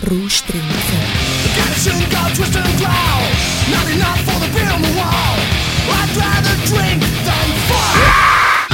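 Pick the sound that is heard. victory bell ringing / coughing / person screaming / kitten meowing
person screaming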